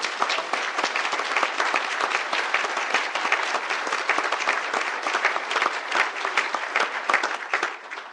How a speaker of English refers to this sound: Please stand up for a round of applause.